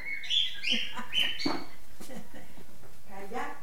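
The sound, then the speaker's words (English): A very chatty pet bird in a house chirps and chatters in quick, bright bursts, three or four close together at the start, with indistinct voices murmuring underneath as the calls fade out. “And his daughter, and grandkids, and cats, two Doberman pinschers, and a very chatty bird.”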